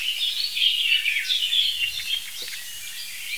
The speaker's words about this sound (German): Es ist Tatsache so, dass immer wieder mal heftige Warnrufe aus der gleichen Stelle im Hotspot, da hatte ich die Amsel gehört, aus der gleichen Stelle im Hotspot entstehen wie hier.